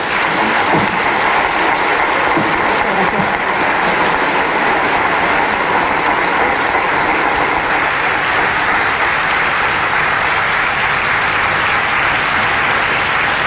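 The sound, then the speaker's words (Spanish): Sustained applause from a crowd for the choir, a dense, steady wash of clapping hands that holds at an even, loud level for the whole stretch without pause or voices. “Bueno, pues con esta aclaración, sí voy a pedir un aplauso para el coro, que se lo merece.”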